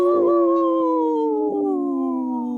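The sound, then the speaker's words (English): Voices imitate a wolf howl together on Native Roots Radio, for Minnesota's wolf population: a long sustained wail that glides slowly downward in pitch, loud, with no talking. “In this portion of the show, we like to bring awareness to our Minnesota wolf population. Say no to the hunts. Howl!”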